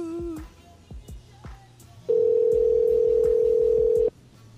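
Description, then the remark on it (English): A phone line's ringing tone sounds once as a loud, steady buzz lasting about two seconds, then stops, with faint clicks and low background noise around it and no one talking. “And it's ringing.”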